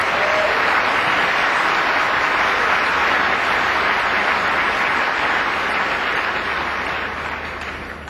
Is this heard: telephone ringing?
no